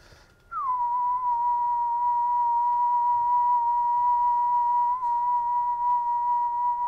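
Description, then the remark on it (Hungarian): A person whistles one steady, pure tone, close and fairly loud, held for about six seconds after a brief downward slide at the start, with no talking. “és megpróbálom a tudományomat megmutatni, és 1 kHz-es színuszjelet sipolni, úgyhogy azt a frekvenciát tartsa.”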